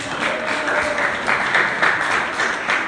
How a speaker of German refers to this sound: Ein Applaus für die das gehört haben. Gib doch mal einen Applaus, bitte.